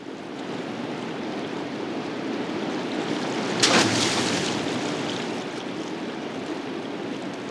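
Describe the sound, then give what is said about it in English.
A corpse weighted down with a large rock and rope is rolled into a river, splashing once midway through, a short bright burst standing out against the steady rushing of the river water. “With a nauseous expression, he stands up and rolls the corpse into the water.”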